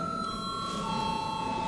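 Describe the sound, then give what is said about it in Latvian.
A steady electric bell rings continuously in a parliament session, called before a vote to confirm a judge: a bright sustained tone with a buzzing edge, holding at even loudness over a low background hum with no speech. “Balsosim par tiesnesi apstiprināšanu. Lūdzu zvanu.”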